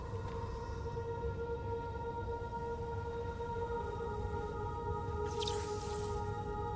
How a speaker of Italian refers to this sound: Acqua.